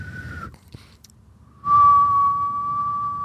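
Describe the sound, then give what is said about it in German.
A person whistles a steady, sustained mid-high tone imitating a constant tinnitus ringing in the left ear that has lasted a week, first briefly, then after a short pause a longer, louder held note. “Ich habe jetzt seit einer Woche habe ich einen Pfeifton auf dem linken Ohr, der nicht mehr weggeht.”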